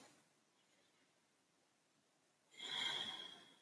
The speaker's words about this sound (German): Und dann atmen wir noch einmal tief ein und aus.